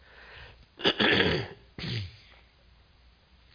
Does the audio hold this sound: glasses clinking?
no